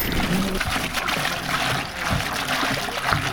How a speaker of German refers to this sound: Oh, macht ein bisschen Wasser auf den Pferderücken. Ja, ein bisschen Kühlung, ein bisschen Dusche, ein bisschen Erfrischung.